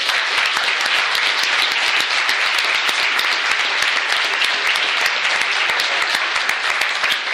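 A sustained round of applause from an audience for the speakers, many hands clapping densely and steadily for several seconds at an even, fairly loud level, with no voices breaking through.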